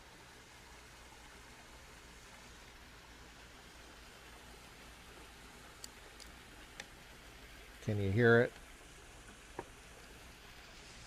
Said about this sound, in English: You get a view of the pool light and the waterfall. Can you see that?